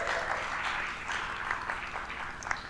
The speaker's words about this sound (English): Little round of applause.